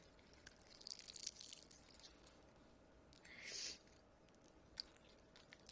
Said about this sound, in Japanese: スライムの音？そのまんま？舐めてるように聞こえる？